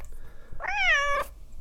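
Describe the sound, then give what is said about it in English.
A cat named Puss Cat, having just taken a homemade greetings card off the top of a piano, gives a single drawn-out meow lasting about half a second, clear, rising slightly then falling away, with only quiet background hum before and after. “Puss Cat's just removed a homemade greetings card off the top of my piano.”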